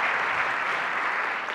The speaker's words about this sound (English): So, big cheer. Big cheer. Thank you, guys.